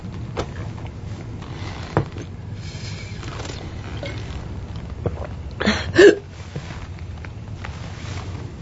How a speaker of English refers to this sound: I get the hiccups when I first drink carbonation.